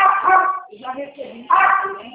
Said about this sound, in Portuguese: Fala de novo pra mim que minha cachorra tava latindo aqui, eu não escutei nada.